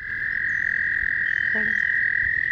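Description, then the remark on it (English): A dense, steady chorus of chirping frogs trills without pause in a wetland at Homer Lake Forest Preserve, east of Champaign-Urbana in East Central Illinois, on a drizzly day, forming a high, continuous drone, with a brief lower call breaking through partway along. No voices are heard. “brings us along to hear some chirping frogs”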